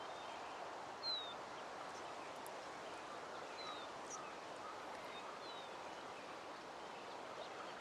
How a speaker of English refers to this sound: There's a waterfall jutting out of this monolith here, and it's covered in vines. But the water here is green, and it's... You can hear birds, you can hear the waterfall, you can hear the water flowing.